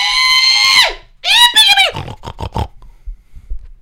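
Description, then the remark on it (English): A person lets out a loud, high-pitched pig call, a long wavering squeal followed by a second rising whoop, then a few quick staccato grunting syllables before it fades out. “It was a big, it was a really good call of pig.”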